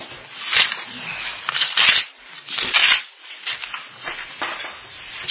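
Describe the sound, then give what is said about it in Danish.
Thin Bible pages rustle and flip in quick bursts as someone turns to Genesis chapter 17, a soft crinkling and swishing repeated several times, with brief pauses between turns and no voices. “Bladet venligst sammen med mig om til 1. Mosebog, kapitel 17.”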